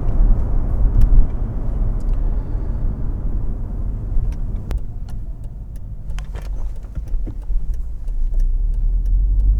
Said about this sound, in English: I've been bashing around in this bone-crushing sports car for a couple of weeks now. Oh, love this.